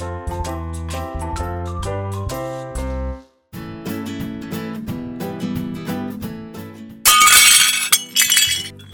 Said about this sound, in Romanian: Hei, dar ce se întâmplă aici? Cine a spart farfuria?